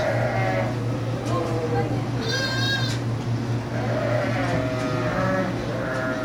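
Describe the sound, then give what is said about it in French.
Lambs bleat in the distance at a sheep farm during lambing, several thin, wavering cries coming and going over a steady low mechanical hum, with one clearer, higher bleat standing out midway. “Au loin, vous pouvez entendre des petits bruits d'agneaux.”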